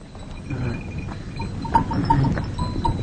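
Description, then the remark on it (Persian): A flock of sheep with small clanking bells shuffles about, the bells ringing irregularly over a steady rustling, with an occasional soft bleat mixed in. “قدرت به طرف گوسفندا میره و کوکب که گویی از قدرت خوشش میاد میخند.”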